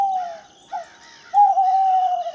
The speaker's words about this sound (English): And the eclipse happened and we were all standing there in a sense of awe. Then out of nowhere, I heard owls start to hoot.